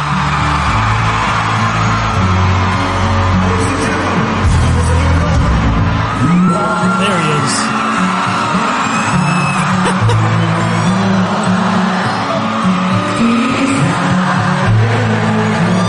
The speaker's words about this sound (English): Some of the crowd singing along too.